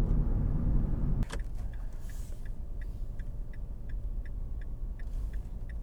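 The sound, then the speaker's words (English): A car's turn signal ticks in a steady, even rhythm, about two clicks per second, over the low hum of the engine and road inside the car. The car is being driven in Vancouver and is not a BMW. “Hold the blinker, don't I?”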